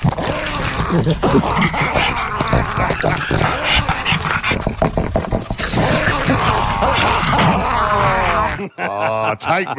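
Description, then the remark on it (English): A person loudly imitates a dog fight, with snarling, growling and yelping vocal noises running almost continuously for about nine seconds before a brief higher whine at the end. “imagine a dog fight between the two of them.”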